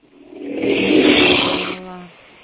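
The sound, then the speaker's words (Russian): A bus engine heard from inside revs up into a broad, loud roar, holds for about a second, then eases back to a lower steady hum. “Я вот уже в автобусе еду.”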